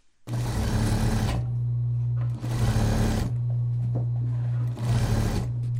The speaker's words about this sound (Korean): 재봉틀 돌아가는 소리가 바쁘게 들리고 있습니다. 이곳은 경기도 부천시 소사지역자활센터입니다.